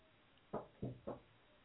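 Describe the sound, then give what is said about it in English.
Three sharp knocks on a door in a quick, even rhythm, distinct against a faint background hum. “Oh, and now there's a knock at the door.”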